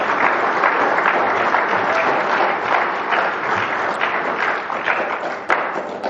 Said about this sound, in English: Let's give another round of applause, shall we?